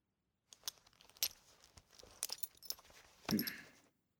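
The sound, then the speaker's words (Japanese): Metallic clinks and jingles of a belt buckle being undone, a few sharp clicks followed by a louder rattling scrape near the end, with no one speaking. “ベルトを外せる？”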